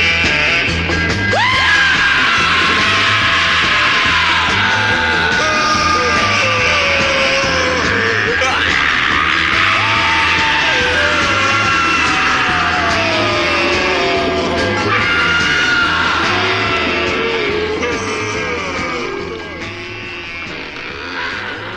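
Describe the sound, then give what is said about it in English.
Loud, driving 1960s-style rock with a steady pounding beat, overlaid with wild, drawn-out screams and yells that rise and fall throughout before the track eases slightly at the end. “a song that was originally banned on the BBC when it came out way back in the 60s, but became a hit thanks to pirate radio.”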